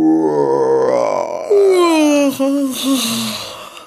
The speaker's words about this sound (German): Gähnt er.